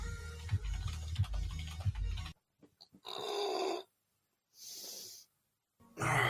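After a short burst of loud, thumping metal music cuts off, a man lets out several drawn-out, breathy yawning groans, each under a second long, separated by silence, as he yawns without covering his mouth and stretches on his sofa.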